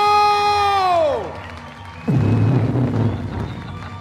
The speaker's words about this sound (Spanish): Muchas gracias por estar aquí. Hey, un aplauso para nuestro invitado,